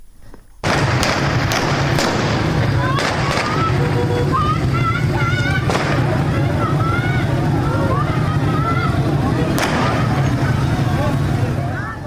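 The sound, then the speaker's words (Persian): Sharp gunshots crack out at irregular intervals over a loud, continuous crowd roar with shouting voices, a quick cluster of shots at first, then a few spaced-out reports. Protesters throw stones at a police post during clashes with police officers in Fanuj county, southern Iran, on the evening of Tuesday, 5 Ordibehesht. “ویدئوهای منتشر شده در شبکه‌های اجتماعی نشان می‌دهد که معترضان به سوی یک پاسگاه سنگ پرتاب می‌کنند و در پس زمینه صدای شلیک گلوله شنیده می‌شود.”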